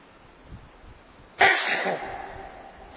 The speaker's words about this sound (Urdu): کہاں تک ضبط بے تابی, کہاں تک پاس بدنامی, کان کو سنبھال لو یارو کہ اب ہم چھینک مارتے ہیں. بہت دیر سے آخر آؤٹ ہو گئی, ناک آؤٹ, اسی کو تو کہتے ہیں ناک آؤٹ.